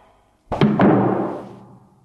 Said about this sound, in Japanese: 扉を閉めよ。